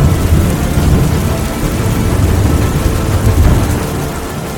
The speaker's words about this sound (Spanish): El intenso clima dejó un rastro de destrucción a su paso por el estado, con vientos violentos y lluvias torrenciales que provocaron la caída de árboles, inundaciones en las calles y destructivos deslizamientos de tierra en toda la región